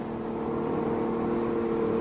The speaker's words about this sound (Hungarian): Jaj, nekünk, jön már a busz.